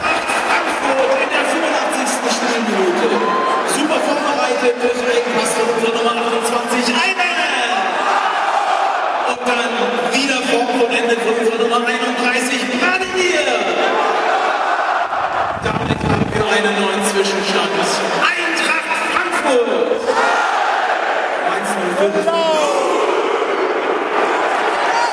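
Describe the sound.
A large stadium crowd at a football match between Eintracht and Mainz roars and chants continuously, honouring two Eintracht players, a two-goal scorer and the substitute who set up a goal, a dense wall of many voices cheering and singing loudly throughout, with surges of celebration rising and falling.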